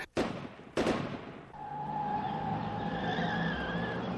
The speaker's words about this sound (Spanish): ese auto, parece que nos sigue. Es solo un auto